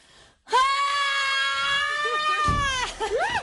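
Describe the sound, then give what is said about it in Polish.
A woman lets out one long, loud, sustained scream lasting over two seconds, then breaks into a few short, rising-and-falling yelps. “Zamiast krzyczeć, szłam zawsze żygać. Teraz pokrzyczę.”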